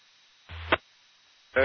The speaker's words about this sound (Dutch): Er zit nog steeds een station in de ruis wat niet lukt, hè? Ik zal probeer het nog eens een keer.